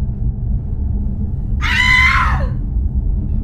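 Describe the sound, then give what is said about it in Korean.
A single high-pitched scream from upstairs in a mansion cuts in abruptly, lasting under a second and trailing off, over a steady low rumbling ambience with no speech. “갑자기 위층에서 비명소리가 들렸다.”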